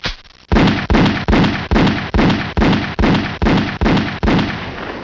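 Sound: series of gunshots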